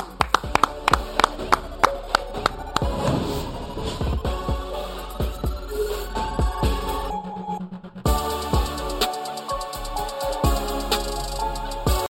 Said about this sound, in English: See everybody on Monday. Clap it up.